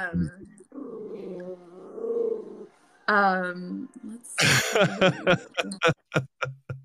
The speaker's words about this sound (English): little dog is just barking and growling at the UPS.